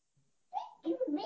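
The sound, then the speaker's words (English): A toddler makes a brief run of babbling vocal sounds, a rising call followed by a couple of quick bursts, clear with no other voices over it. “I'll share, but I was going to warn you, I'm a toddler, and he just let you know.”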